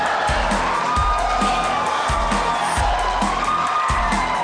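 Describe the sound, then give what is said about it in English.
An audience at an event with Donald Trump and Secretary Clinton cheers and applauds loudly in a continuous, dense roar with no pause, and low thumps repeat roughly once a second underneath. “Please do not applaud.”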